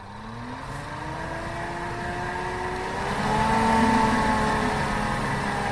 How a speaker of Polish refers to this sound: I jak słyszymy, filtrowentylator się odezwał. Teraz zasysamy powietrze do obiektu, do środka przez filtr wstępny, który się znajduje pod sufitem.